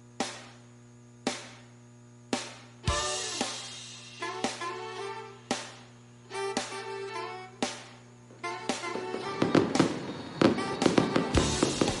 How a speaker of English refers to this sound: And as the fireworks reach their conclusion, we welcome you back inside the Ground Zero Blues Club postgame show, the official postgame hangout of the Biloxi Shuckers. As the fireworks are reaching their grand finale in front of a crowd of over 3,000